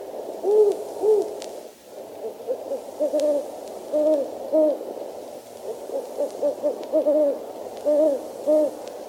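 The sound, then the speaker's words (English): A great horned owl, a big yellow-eyed owl with feather tufts like horns on its head, hoots repeatedly in soft, mellow low tones, the hoots coming in loose clusters without a steady rhythm, clear over a quiet night background. “The great horned owl, the big yellow-eyed owl with feather tufts like horns on his head, has a mellow hoot with no particular rhythm pattern.”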